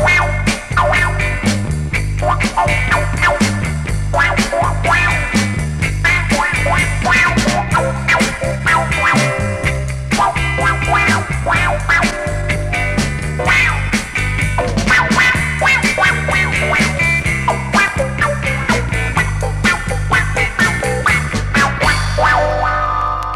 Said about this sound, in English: Wah-wah pedal lets you make your guitar growl.